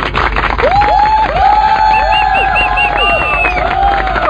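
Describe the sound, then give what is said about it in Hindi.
A loud crowd cheers and claps continuously for women voters, with rising and falling whistles and whoops cutting through the dense, steady roar of applause. “जोरदार तालियां महिलाओं के लिए।”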